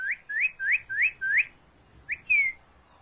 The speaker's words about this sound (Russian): Когда они летят, то их крылья, рассекая воздух, точно поют, или лучше сказать, посвистывают. Фью-фью-фью-фью-фью раздается в воздухе, когда летит высоко над вами стадо таких уток. И их самих даже не видно, так они высоко летят.